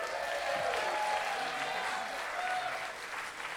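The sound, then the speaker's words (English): A crowd at a San Francisco venue bursts into sustained applause for the independent venue staff, a dense, steady wash of clapping that holds at full strength for several seconds with a few scattered cheers mixed in. “So cheers to all the independent staff. Let's hear it.”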